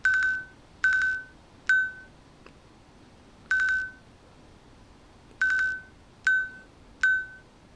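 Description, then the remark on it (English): A phone, set by a one-finger double tap to buzz the time, vibrates the time 11:57 a.m. in a coded pattern of buzzy pulses: two long buzzes and a short one, a pause, a single long buzz, then another long buzz followed by two short ones. No one speaks. “Tap to buzz time.”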